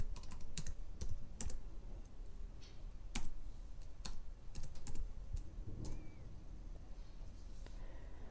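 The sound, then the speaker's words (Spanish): Typing on a computer keyboard to search for Google Docs: irregular bursts of crisp key clicks with short pauses between, moderately loud over a low steady background hum, with no one talking. “Buscamos Google Docs, damos clic en Welcome to Google Docs.”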